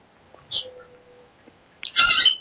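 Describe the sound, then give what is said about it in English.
A pet parrot squawks twice in the background, first a short shrill cry, then a longer, louder, raspy screech near the end, with quiet background between. “You have a bird in the background? Yeah, I have parrots.”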